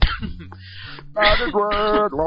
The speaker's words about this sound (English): I'm coughing. I sound like a homo when I cough.